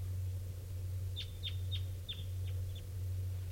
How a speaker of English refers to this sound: Well, it's still nearby. I think it was the bird I first heard this morning. It's just an unusual variant of type 2. Or it sounded funny to me at first. That's the bird.